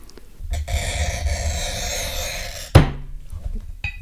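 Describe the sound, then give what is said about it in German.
A glass cutter scores a sheet of glass with a steady, gritty screech lasting about two seconds, fairly loud, followed by a single sharp knock as the glass is tapped before breaking, and quieter handling sounds. “Ich muss mich mal dazu hinstellen, weil dann hat man den besseren Druck beim Schneiden.”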